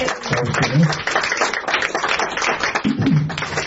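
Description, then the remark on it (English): A crowd applauds steadily for the staff at Steep's, a dense and fairly loud wash of many hands clapping that holds through the whole stretch, with faint voices briefly audible underneath. “And then next, how about a round of applause for the staff at Steep's?”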